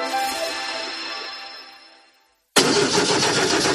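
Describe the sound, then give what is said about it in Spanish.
A poorly maintained car engine cranks and whines with a strained, droning tone, fades to a brief silence, then bursts back in loud, rough and noisy, with no one talking. “Así suena el motor de un coche mal cuidado.”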